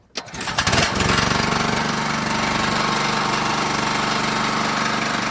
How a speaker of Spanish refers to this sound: Hemos arrancado ya el generador.